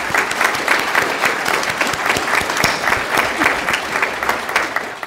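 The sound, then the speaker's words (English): A conference audience claps steadily in a round of applause for everybody who has been at GLHV, a dense wash of many hands beating at a fairly even loudness for about five seconds, with no voices standing out above it. “So can we all give a round of applause to everybody who's been at GLHV?”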